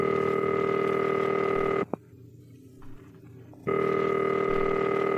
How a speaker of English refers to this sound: Oh, she's making a phone call. Who's she calling?